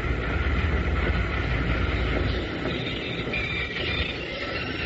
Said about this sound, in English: He's got the train stopped, you know?